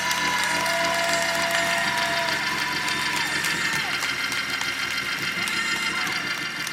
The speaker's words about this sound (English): Come on, somebody shout hallelujah. Take the next 30 seconds if you believe that. Give the Lord a hand clap to praise.